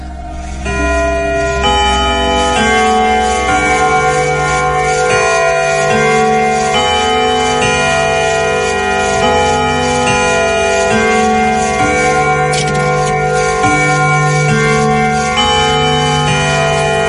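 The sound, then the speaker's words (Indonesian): A large clock in a family room chimes at one o'clock at night, a slow, steady melody of resonant bell tones, each note ringing out and overlapping the next. The sound is loud and continuous, with no voices. “Tiba-tiba terdengar suara dentingan jam besar di ruang keluarga.”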